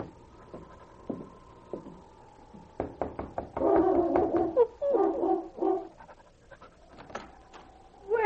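King, a big gray lead dog, pants rapidly as he follows Sergeant Preston of the Northwest Mounted Police to a cabin door, his breathing rising and falling in quick rhythmic bursts, with a few sharp knocks in the background and no one speaking.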